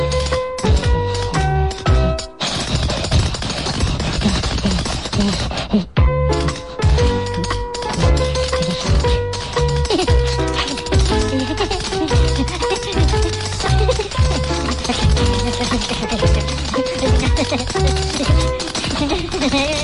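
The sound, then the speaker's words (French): Rapid, crisp tap-dance footsteps clatter in quick rhythmic bursts over loud, steady music, with a brief pause around the middle before the tapping resumes. “Je vais danser la claquette.”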